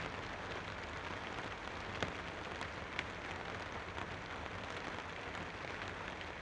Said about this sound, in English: Small drops of rain drip on your nose. It starts to rain.